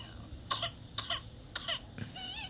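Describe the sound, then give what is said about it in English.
A baby with whooping cough gives a run of three sharp coughs in quick succession, followed by a high, wheezy drawn-in breath, the whoop of whooping cough, as the baby struggles to breathe. “Aw, baby struggling to breathe.”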